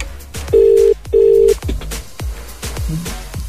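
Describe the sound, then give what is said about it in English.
A phone call placed from a hooked-up personal phone rings out with two steady electronic ringing tones in quick succession, set against a backdrop of regular soft thumps and clicks. No one speaks. “I've hooked up my own phone, and let's ring Nathan now”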